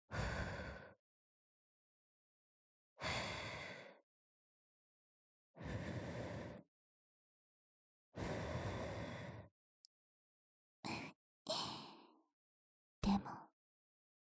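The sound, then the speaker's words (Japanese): Close, airy breaths blown right up against the ear: four long, soft exhales a few seconds apart, then a cluster of shorter, quicker puffs, with silence between and no talking. “耳に吐息吹きかけられただけで”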